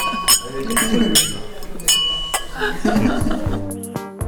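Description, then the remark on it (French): Several glasses of cider clink together in a toast at a cidery in Telgruc-sur-Mer, bright ringing chinks scattered over a few seconds, with people talking and murmuring around them. “Est-ce que ça vous dit trinquer pour narguer nos auditeurs et auditrices? Allez, à la vôtre.”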